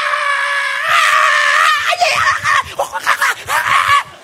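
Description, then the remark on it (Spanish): A loud, sustained yelling shout rises and holds for about two seconds, then breaks into choppy, rapid vocal bursts: a person imitating an army general's battle charge cry, forceful. “Cuando, ¿han visto que todo el mundo levanta la voz cuando el general del ejército hace así?”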